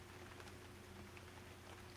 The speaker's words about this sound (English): It's just the rain sounds so much better out of our bedroom window, bouncing off the patio, than what I can hear in the living room.